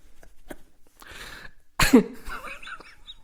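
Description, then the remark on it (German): A single sharp cough bursts out midway, preceded by soft breathy throat noises and followed by a few quieter rasping sounds as it fades. “Husten.”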